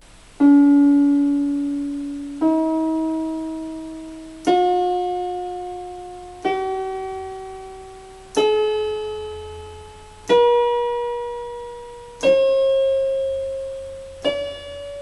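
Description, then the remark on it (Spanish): Eight bright, harmonic test tones play one after another, each lasting about two seconds and fading, stepping steadily upward in pitch like a scale that spans an octave. No voices. “Cuando un tono tiene una frecuencia determinada, si se duplica esa frecuencia se dice que se ha subido una octava.”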